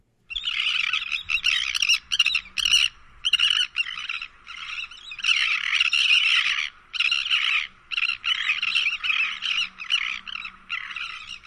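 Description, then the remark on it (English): A flock, or cotillion, of elegant terns calls all at once, a loud, dense chorus of harsh, raspy, high-pitched cries that overlap in bursts with brief pauses throughout. “Very social and noisy, elegant terns can be heard from almost a quarter mile away, especially when gathered in a cotillion or flock and calling simultaneously.”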